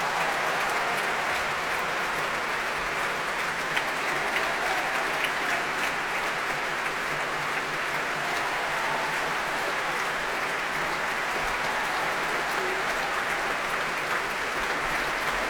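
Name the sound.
concert audience applause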